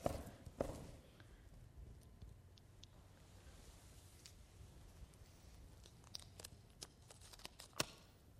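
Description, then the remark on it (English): Crumpled green paper crackles and crunches as it is stomped underfoot in a quiet, irregular series of stomps and rustles, with a few sharper snaps near the start and end and no voices. “I'm going to stomp you under my feet.”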